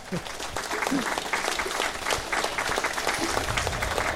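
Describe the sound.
An audience applauds steadily for about four seconds, a dense crackle of many hands clapping at an even, moderate loudness, with a brief voice or cheer mixed in near the start.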